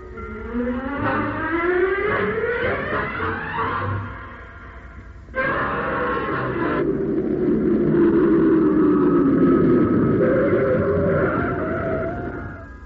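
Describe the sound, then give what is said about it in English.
A car engine runs steadily, its pitch climbing as it accelerates, dipping briefly, then droning on loudly and easing down again. No voices are heard. “Ditch this car”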